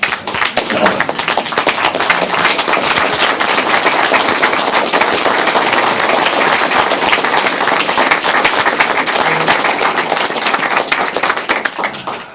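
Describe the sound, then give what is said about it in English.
A large crowd stands and claps steadily and densely for about twelve seconds, a standing round of applause for a departing colleague of the port. It is a loud sustained wash of many overlapping hand claps with no voices rising above it before it tapers off at the end. “And so we would just like to stand and give you a round of applause.”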